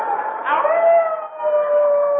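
wolf howl sound effect

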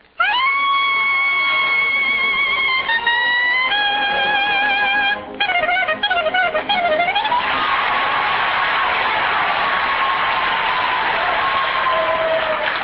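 audience applause

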